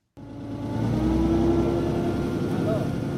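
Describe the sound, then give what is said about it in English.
A small fishing boat's engine drones steadily on the Andaman Sea off Thailand, a low throbbing hum that starts abruptly and holds constant, with a faint wash of wind and water around it. “I'm in a small fishing boat on the Andaman Sea”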